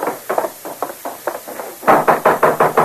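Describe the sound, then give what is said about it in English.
Someone knocks on a wooden door, first a run of moderate raps, then a louder, firmer series of hollow knocks in quick rhythm, with no voices. “Don't look like she's going to answer the door.”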